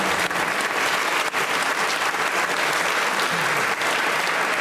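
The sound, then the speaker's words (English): An audience applauds steadily, a dense, even wash of clapping that stays loud and constant throughout without any voices standing out. “And also, well deserved a round of applause.”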